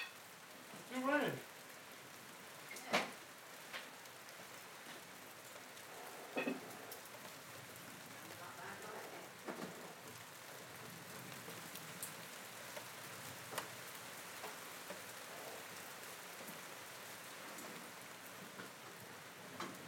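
Steady rain hisses across the whole clip, with scattered louder drips and pattering hits breaking through the constant wash of sound.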